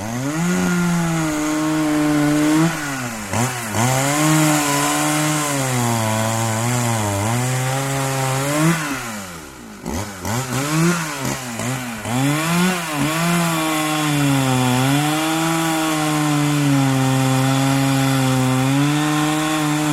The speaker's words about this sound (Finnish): Metsien ennallistaminen saattaa tapahtua rajuin keinoin, kuten kaulaamalla puita moottorisahalla. Näin saadaan siis syntymään lahopuuta.